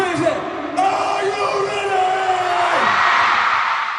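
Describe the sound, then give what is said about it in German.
A large crowd of fans at a band's concert cheers and screams continuously, a dense roar with high-pitched shrieks and whoops rising above it, loud and sustained throughout. “Die Fans sind begeistert.”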